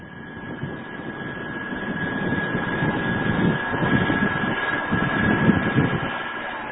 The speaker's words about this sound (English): A large boat makes its way through fog-enshrouded Aniva Bay at the southern tip of Sakhalin Island.